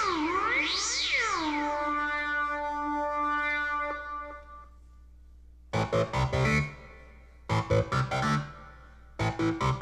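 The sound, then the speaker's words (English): A cat lets out a drawn-out, wavering meow that rises and falls in pitch, then trails off into a fading tone before a person starts talking in short bursts. “Good kitty likes it, yes.”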